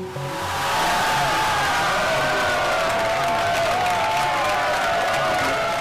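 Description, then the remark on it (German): A large crowd of CDU supporters at a state election party in North Rhine-Westphalia, Germany, cheers and applauds loudly and continuously, with whistles and whoops rising over a dense wash of clapping, swelling in the first second and then holding steady. “Jubel bei der CDU in Nordrhein-Westfalen.”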